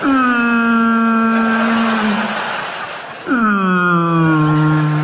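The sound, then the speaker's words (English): Two long, loud whale moans, each a low mournful tone sliding slowly downward; the second begins with a brief upward swoop before sagging again. No one speaks. “Whales always kind of sound depressed, don't they?”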